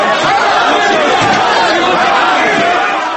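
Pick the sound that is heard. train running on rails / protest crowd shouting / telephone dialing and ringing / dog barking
protest crowd shouting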